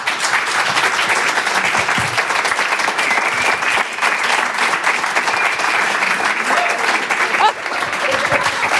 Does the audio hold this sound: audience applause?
yes